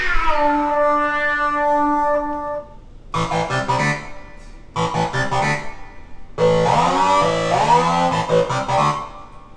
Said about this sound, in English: Here, kitty, kitty, kitty, kitty. Oh, yes. Good kitty likes it.